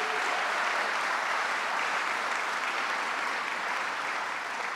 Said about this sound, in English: And we have Mr. Howard Zemsky. Give Howard Zemsky a round of applause.